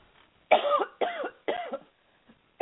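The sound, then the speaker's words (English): Three loud coughs in quick succession, each a harsh burst about a third of a second long, followed by the start of a fourth right at the end. “hold on a second, I have to cough.”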